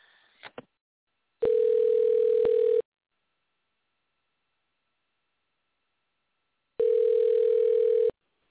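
signal or alarm, telephone dial tone

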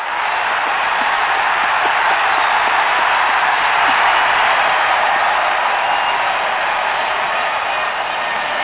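crowd, crowd cheering

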